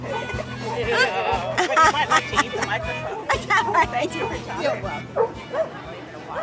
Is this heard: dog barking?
yes